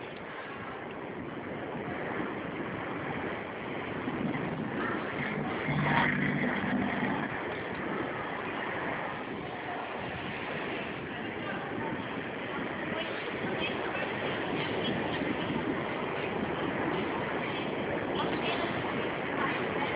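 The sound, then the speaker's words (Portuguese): A steady, continuous rumble of road and engine noise from inside a moving car driven behind a bus by a person on a phone call, fairly loud and unbroken for the whole stretch, with faint muffled voices now and then. “Você falou que tá dirigindo, esse carro que tá dirigindo é seu?”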